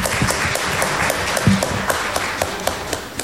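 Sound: audience applause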